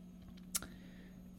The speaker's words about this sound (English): I swear to God, I don't know why this computer seems so slow in this house. Typing out names!